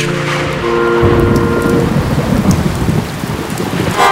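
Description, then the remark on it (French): In a French children's song, a brief musical tone gives way to a loud rain and thunder sound effect, steady downpour hiss with a deep rolling rumble that continues for a few seconds. No voices. “S'il a un arrosoir, attention, il va pleuvoir.”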